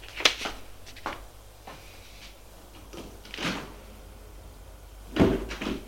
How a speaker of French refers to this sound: Elle referme sa boîte aux lettres.